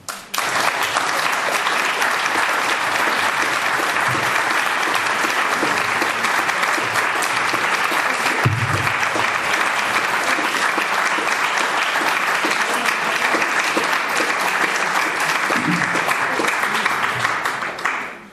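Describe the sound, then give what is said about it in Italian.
A large audience applauds steadily and loudly for about eighteen seconds after a talk, a dense, even wash of clapping that holds at full strength before tapering off at the very end. “Credo che abbiamo tutti apprezzato, e questo applauso lo conferma, la chiarezza espositiva, la brillantezza e la profondità di questo intervento,”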